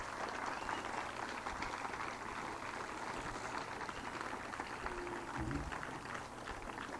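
A crowd applauds steadily, clapping performers off the stage, a dense wash of many hands clapping that holds at an even loudness for several seconds without fading, with no voices heard over it.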